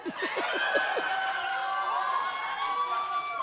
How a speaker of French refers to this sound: Pourquoi vous applaudissez?